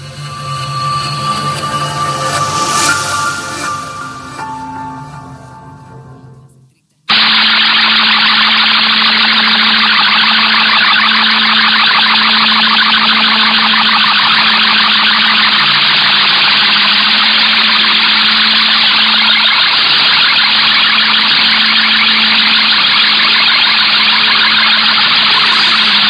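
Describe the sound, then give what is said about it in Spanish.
Radio jamming interference by Iranian radio and television against Radio Payam: a few seconds of wavering tonal radio signal abruptly give way to a loud, unbroken roaring hiss with a steady low hum beneath it, continuing unchanged to the end. “Lo que escuchaste, sí, o lo que escuchó nuestra audiencia, es la interferencia que la radio y televisión iraní le hace a Radio Payam.”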